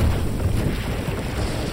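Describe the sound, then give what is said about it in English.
A cold wind rushes steadily out of a crack in the floor with a deep, rumbling low roar and a hissing upper wash, holding an even loudness throughout with no voices. “The floor shudders under our feet, and a cold wind howls out of the crack.”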